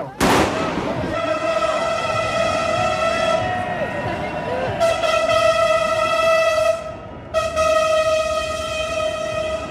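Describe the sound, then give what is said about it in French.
A Paris metro train's horn, sounded by the driver in support of a street demonstration for fiscal revolution, blares loudly in a long sustained blast, breaks off briefly, then sounds again, with crowd murmur and voices underneath. “Un petit soutien du machiniste du métro, oui.”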